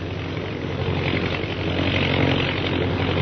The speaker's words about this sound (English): Let's see, how many of the planes are there? 1, 2, 4, 6, 8, 10. 10 bombing planes, eh?